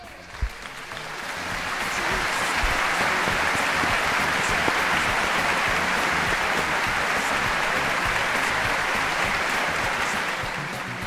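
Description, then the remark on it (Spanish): Sustained audience applause for the Universidad Miguel Hernández tennis team, the university's first official team to enter the CEU, many hands clapping in a dense, steady wash that swells within the first two seconds and holds loud and even until it tapers slightly at the end. “Pues antes de seguir, tenemos que darle al equipo de tenis por ser el primer equipo oficial de la Universidad Miguel Hernández en entrar al CEU este aplauso.”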